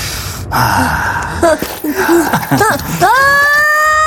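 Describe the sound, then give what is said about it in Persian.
Breathy gasps and short strained vocal noises give way to a loud, sustained, high-pitched scream, made instead of a deep breath, that holds steady through the final second. “ای بابا، مثل این که فرق بین نفس کشیدن و فریاد زدن رو نمیدونه.”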